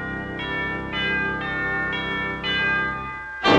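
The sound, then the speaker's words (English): A large city clock tower bell, rung by mechanical statues of Father Time and Lady Liberty in the Mickey Mouse cartoon Clock Cleaners, rings out in a steady series of strikes about half a second apart, each rich tone overlapping the last, ending with a sharp, louder clang. “Two mechanical statues, one shaped like Father Time, the other one resembling Lady Liberty, take turns coming out on a track and ringing its bell.”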